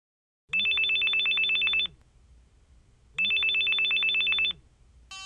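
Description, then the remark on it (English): A telephone rings twice in a steady electronic trill, each ring lasting over a second with a pause between, clear with no talking; the call is from the employment office of Holiday Cruise Lines. “Listen to Brad's phone call.”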